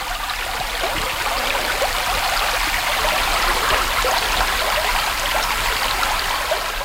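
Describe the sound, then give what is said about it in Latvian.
Steady flowing stream water, a continuous bright babble and trickle that holds an even level throughout, with no voices over it. “Te jau arī dabas draugi var vienkārši atnākt meditēt un klausīties ūdens skaņās.”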